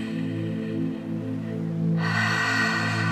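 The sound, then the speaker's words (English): A deep breath drawn in and pushed out through the mouth during a guided breathing exercise, the airy rush swelling noticeably toward the end, heard over a steady, sustained musical drone. “Breathing in the deepest breath you've taken all session. In through the mouth, out through the mouth.”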